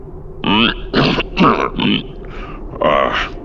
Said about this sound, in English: He blinked his large eyes and took a moment to clear his throat.